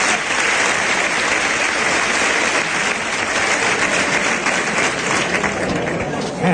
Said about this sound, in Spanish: Y la ovación nuevamente. Otra ovación antes de salir el primer toro.